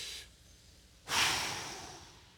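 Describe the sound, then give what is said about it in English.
An audience breathes in and out together: a brief, soft inhale, a short pause, then a loud, airy group exhale that swells suddenly and slowly fades. No one speaks. “Let everything that has breath, praise the Lord. Everybody do this with me, go.”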